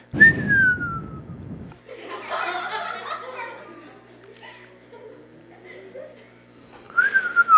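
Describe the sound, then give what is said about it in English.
A person whistles a short, falling tone, then voices murmur and chuckle before a second descending whistle closes it out. “But there's a whistling, like when something, like a horrible thing happens, you go.”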